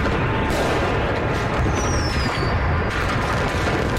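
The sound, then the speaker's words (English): A loud, dense barrage of fireworks explosions, booming and crackling without pause, with a brief high whistle streaking through the middle. “Should have gave the trigger warning for veterans.”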